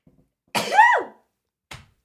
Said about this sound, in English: I have to sneeze. I'm sorry.